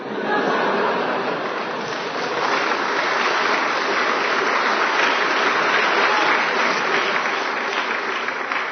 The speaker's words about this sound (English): This is the signal for spontaneous applause.